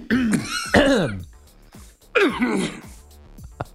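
After swallowing something, a man clears his throat and coughs in harsh, raspy bursts, three or four loud hacking fits separated by brief pauses, with no talking in between.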